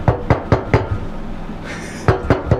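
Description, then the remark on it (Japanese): Knuckles rap on a wooden tabletop in a quick run of about five knocks, a pause, then three more, fairly loud with no talking; a table-knocking signal meaning 'I love you', made at night during a werewolf (jinrō) game. “夜、一人だけ執拗にテーブルトントンの合図が愛してるのサインだった。”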